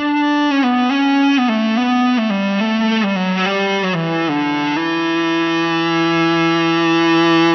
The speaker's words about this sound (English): The Ebow keeps the string vibrating under your fingers, so you don't have to pick each note.